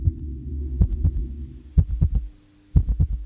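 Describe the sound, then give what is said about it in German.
Muffled, low heartbeat of a mother as heard by a baby inside the womb, thudding in paired beats roughly once a second over a constant deep whooshing rumble. “Babys hören darum schon im Bauch der Mutter deren Herzschlag, das Gluckern des Darms, das Rauschen des Bluts und gedämpft auch die Stimmen von Mama, Papa und Geschwistern.”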